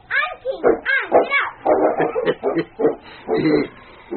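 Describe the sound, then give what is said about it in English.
King, Sergeant Preston's big lead dog hitched to a sled, barks and yips excitedly in a rapid, steady string of high, eager calls for about four seconds, fairly loud, with no talking. “The following morning, Sally squealed with delight as she sat on the sled to which Sergeant Preston had hitched his big lead dog, King.”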